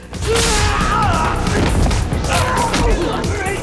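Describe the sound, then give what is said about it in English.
A rapid flurry of fight blows as Johnny fights men in suits armed with batons of different lengths, one an electric cattle prod he uses to jab another. Sharp punches, kicks and strikes land loud one after another, mixed with shouts and grunts over a dense, busy background. “Two of the men attack. Johnny uses the cattle prod held by one to jab at the other.”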